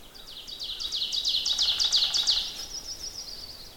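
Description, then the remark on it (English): An ovenbird, a kind of warbler, sings its emphatic teacher-teacher song from a little way into deciduous woods, a quick series of ringing two-note phrases that build steadily louder before cutting off, set against faint outdoor background noise. “The bird is a little bit in the woods from where I am, and it's an oven bird, which is a kind of warbler. It's going, teacher, teacher, teacher, teacher, teacher.”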